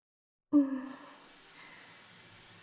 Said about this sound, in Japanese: では早速、シャワーで頭を流していきますね。